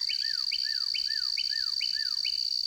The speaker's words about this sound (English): As summer unfolds, we soon forget their vibrant springtime choruses and instead enjoy the coming of the insect singers, such as this ground cricket, sounding off underfoot as a cardinal sings in the background.